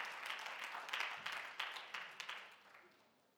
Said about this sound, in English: Let's give Jesus a clap of praise one more time, everybody.